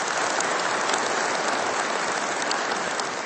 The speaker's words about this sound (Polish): I kochani, oczywiście siebie nawzajem przywitajcie gorącymi oklaskami, bo dobrze być jedną, kochającą, wielką rodziną. Dlatego brawa dla siebie nawzajem.